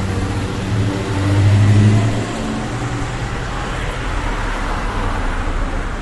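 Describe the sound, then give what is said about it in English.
A car drives past at a crosswalk during guide dog training, its low engine hum swelling briefly in the first couple of seconds before fading into a steady wash of road noise, with no voices. “Went behind this car out in the crosswalk.”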